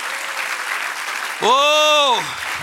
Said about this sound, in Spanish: Por eso dijo David: todo lo que respire, dele un aplauso al Señor.